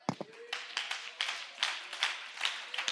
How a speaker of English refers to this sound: I'm going to put this microphone down, and we're all just going to clap our hands till we feel something.